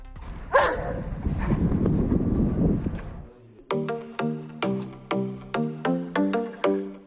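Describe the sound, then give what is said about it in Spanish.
Nero, an 18-month-old German shepherd of the local police canine unit in Azuqueca de Henares, barks about nine times in a steady, evenly spaced series, loud, following a few seconds of rough, noisy rumbling. “Ese era Nero, ese ladrido es de un pastor alemán de 18 meses, pero no es un perro cualquiera, es un superagente, miembro de la unidad canina de la policía local de Azuqueca de Henares.”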